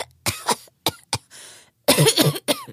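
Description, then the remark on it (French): Several sharp coughs in quick bursts, with a short raspy breath between them, ending in a longer rough fit of hacking coughs. “Entre deux claques, Nemrod entendit tousser.”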